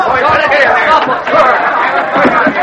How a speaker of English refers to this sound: When the gangplank was lowered, the whole crowd surged forward.